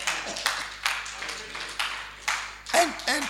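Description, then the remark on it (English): An audience claps steadily for someone standing in front of the stage, the dense applause swelling in a loose rhythm of bursts, with a few raised voices calling out over it near the end. “Rather, you are honored to come and stand here in front of the stage and have all of us clapping for you.”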